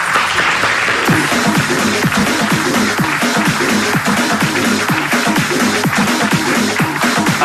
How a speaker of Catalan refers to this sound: Gràcies i demano un aplaudiment per tota la gent que ha fet gran aquesta vila empresarialment.